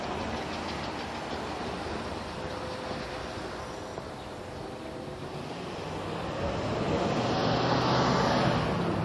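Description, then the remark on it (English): Steady roadside rumble of early-morning traffic, with a vehicle swelling louder and whooshing past near the end. No one speaks; the noise is continuous. “Try not to get run over by the traffic.”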